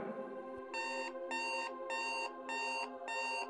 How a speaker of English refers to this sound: It doesn't seem like the sound of the shofar to me. This seems more like a trill, a ring, a buzzer. Yes, I must admit that it lacks the arcane depth, majesty, and power of the sacred instrument. Electronic junk, I advised against the purchase.